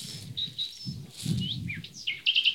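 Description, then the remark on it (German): A nightingale sings a varied run of clear whistles, rising slurs and quick trilled notes over a low rumbling background; no one speaks. “Da hört ihr einmal die Nachtigall.”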